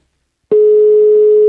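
telephone ringing tone

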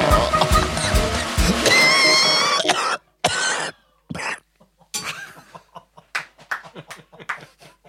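cough

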